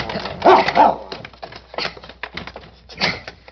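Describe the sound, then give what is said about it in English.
A male dog barks in a few sharp bursts, then whines and whimpers in short, excited yelps with brief pauses between them. “Down, Prince. Down, boy.”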